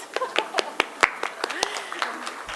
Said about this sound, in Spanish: Bueno, aplaudamos.